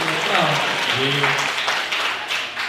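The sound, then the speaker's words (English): An audience at a live show in Manchester, night two, claps steadily in a dense, continuous wash of applause that holds for the whole stretch, with a man's voice briefly talking over it near the start. “Hey, they clapped me.”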